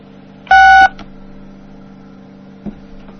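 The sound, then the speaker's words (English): A single loud phone keypad tone sounds for about a third of a second over a low, steady line hum as a 10-digit Sprint PCS phone number is entered, followed by a faint click a couple of seconds later. “Please enter the 10-digit PCS phone number of the new person being referred to Sprint PCS.”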